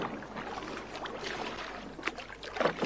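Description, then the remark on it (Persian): Oars dip and pull through water as a boat is rowed, in an uneven rhythm, with splashing and dribbling strokes over a low steady background hiss, growing a little louder toward the end. “پس پاری بزن ناخدا.”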